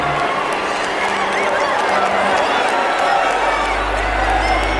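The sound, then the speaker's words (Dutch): A dense crowd of goblins seated meters above an arena floor shouts and cheers enthusiastically. A steady roar of overlapping voices holds a loud, even level with no pauses, and a low rumble rises near the end. “Meters boven hen zaten kobolden enthousiast naar hen te schreeuwen.”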